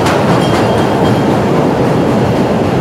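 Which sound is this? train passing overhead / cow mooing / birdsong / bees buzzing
train passing overhead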